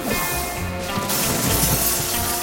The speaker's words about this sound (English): I broke a plexiglass window on the opposite side of the ship. With luck, the roar of the engines prevented the Skull from hearing it.